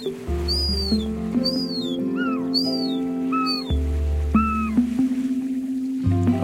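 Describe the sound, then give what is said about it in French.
Young herring gulls overhead give a series of thin, high, down-slurred whistling calls, about eight in irregular succession, over a steady low rumbling drone. No one speaks. “Il y a des jeunes goélands argentés. Ah oui, au-dessus de nous.”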